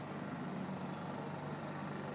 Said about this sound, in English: So there will be not the natural sounds of my garden early in the morning, but the sounds of a bustling car boot in town at 11 a.m.